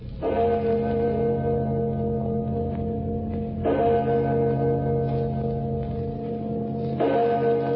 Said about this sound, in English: Do you hear them? Do you hear the bells? Bells? I don't hear any bells, mister. But I tell you, they're ringing.